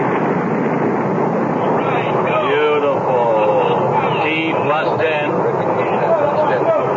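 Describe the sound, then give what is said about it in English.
Rocket engines roar at launch after ignition, all engines firing, a dense, steady rumbling blast at high volume, with faint radio-style voices counting down and talking over the noise. “Ignition sequence starts. All systems go.”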